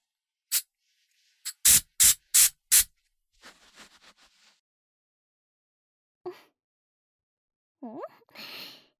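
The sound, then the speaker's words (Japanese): Hair spray hisses from an aerosol can in short bursts as a stylist's finishing touch on a customer's hair: a single puff, then four loud sprays in quick succession, followed by softer hissing and a few brief vocal sounds near the end. “ヘアスプレー使わせていただきますね。”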